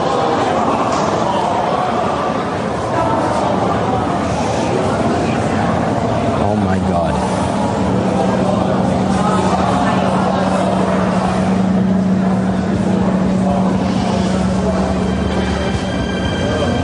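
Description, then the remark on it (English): A deep, sustained roar of the second World Trade Center tower collapsing in Manhattan as rescue officials try to evacuate it, loud and rumbling like a passing train, with a steady low hum emerging midway and indistinct voices buried beneath the noise. “That was the second tower of the World Trade Center collapsing before our eyes.”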